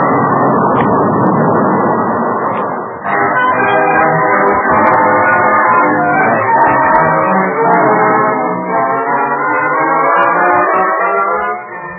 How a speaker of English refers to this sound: As the two towering walls of flame met, the explosion threw blazing oil high into the air and rocked the earth for miles around.